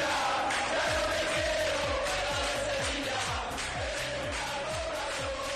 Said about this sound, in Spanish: Ayer hubo gritos en las gradas hacia José María Del Nido